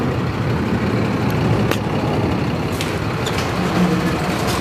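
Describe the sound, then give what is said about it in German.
A container is unloaded from a truck in the industrial area at the Osthafen in Frankfurt: a heavy engine rumbles steadily throughout, broken by a few sharp metallic clanks and brief hissing bursts, with no one speaking. “Es wird hier gerade ein Container abgeladen von einem LKW.”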